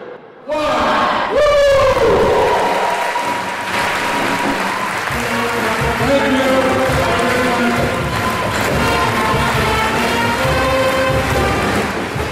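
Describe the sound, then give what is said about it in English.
A packed high school gym crowd in Haynes bursts into loud, sustained applause and cheering after a countdown as jersey number 42 is unfurled from the rafters, with whoops and hoots rising above steady clapping for over ten seconds, echoing. “Then, with a countdown from the packed gym, number 42 was unfurled from the rafters to the same applause and school song that often accompanied Kyle on the court.”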